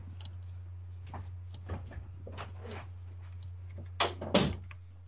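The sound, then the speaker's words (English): Soft shuffling and clicking over a steady low hum, then a door is pushed shut with two thuds near the end, followed by quiet. “I'm going to shut that door in case they call back.”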